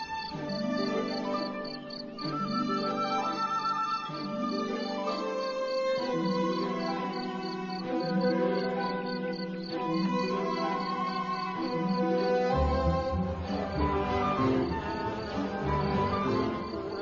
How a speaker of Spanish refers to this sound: Aquí los grillos parecen estar dispuestos a demostrar su valía. Pueden ser escuchados desde grandes distancias.